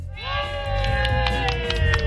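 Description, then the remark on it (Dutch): A supporting team at a running event, wearing 'To The Top' shirts, cheering loudly together, a sustained rising whoop of voices held for about two seconds, with scattered sharp claps or shouts mixed in. “En er staat ook een heel team hier wat heel hard loopt te juichen. Allemaal even juichen!”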